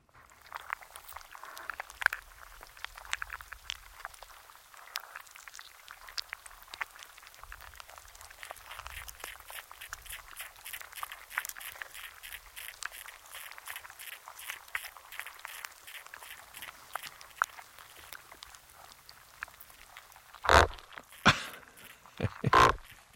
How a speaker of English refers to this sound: dropped an underwater microphone into the soft mouth of an anemone, which devoured that microphone, and then you can hear, kicks it out. Here's the sound inside the sea anemone.